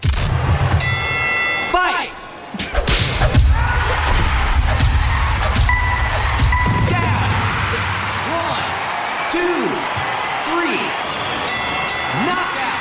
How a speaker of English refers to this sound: All right, we move on to the top three for Dave Ranks, the sounds of different games in Wii Sports, and it is, of course, boxing.